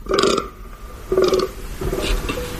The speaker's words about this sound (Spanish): Los ciervos berrean. Los gamos roncan, como estamos escuchando.